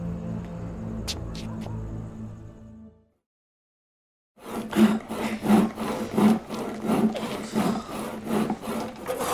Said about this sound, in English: What are you doing? Sawing, Uncle. You told us to saw. And we're sawing. Making slow work of it.